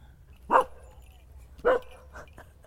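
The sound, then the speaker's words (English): A small spaniel, meeting a dog named Raymond, barks twice, sharp, about a second apart, then gives a couple of softer, shorter yips against a low background rumble. “Raymond's just met a little spaniel.”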